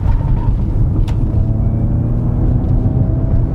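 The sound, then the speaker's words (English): A steady, deep synthesized engine rumble from an electric Mustang hums continuously, with faint higher tonal whines layered above and a brief click just after the first second. No one speaks. “So it's got a bit of that rumble, but it's a unique sound. It's not like an internal combustion engine.”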